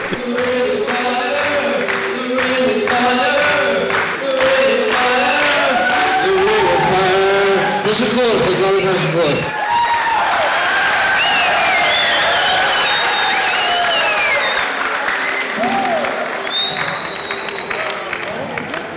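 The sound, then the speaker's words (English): A large concert crowd cheers and applauds loudly and continuously, with whoops and shouted voices over dense clapping, the roar swelling and staying intense throughout. “But they are going crazy. It was the best crowd I've ever had.”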